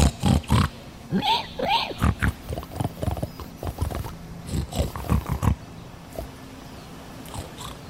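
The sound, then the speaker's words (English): Voices speak a made-up pig language, "Hog Latin", as a run of irregular pig-like snorts, snuffles and grunts, some layered over one another, for about six seconds before trailing off into quiet. “I don't speak pig.”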